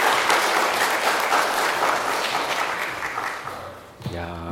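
A room full of people applauds steadily for about four seconds, a dense wash of clapping that gradually fades, followed by a man starting to speak close to the microphone.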